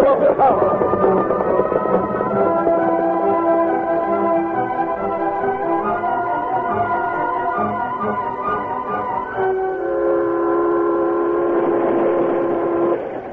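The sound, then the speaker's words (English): A moving train, about 40 minutes out of Monument City, rumbles steadily along, loud, with a sustained chord-like whistle droning over the clatter and shifting pitch partway through before continuing to the end. “About 40 minutes after the train left Monument City, Doug Dimmick leaned back in his seat with a self-satisfied grin, while his partner Hayes Morgan looked out the window anxiously.”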